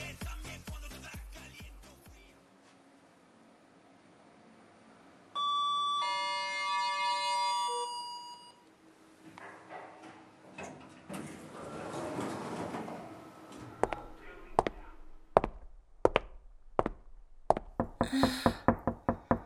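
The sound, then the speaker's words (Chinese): A mother who forgot her key knocks sharply on her home's door, then a bright, sustained electronic doorbell rings for a few seconds. After some rustling, the knocking returns, growing faster and more insistent toward the end. “妈妈忘记带钥匙了，快点帮我开一下门啊！”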